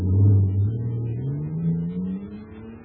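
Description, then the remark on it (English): An atomic fire control jet car's engine, filled with super fuel, roars loudly and steadily, its pitch climbing as it revs up and accelerates over a few seconds, with a deep rumbling drone and no voices. “Listen to that fire control jet car go now.”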